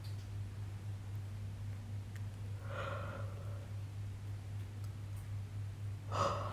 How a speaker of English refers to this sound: There we go. Yawn.